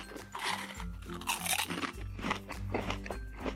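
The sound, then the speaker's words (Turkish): Wet, leafy crunching and chewing of spinach, with a steady run of crisp bites and crackles over a low background hum, no talking. “Süslü zar zor ıspanağı yemeye başladı.”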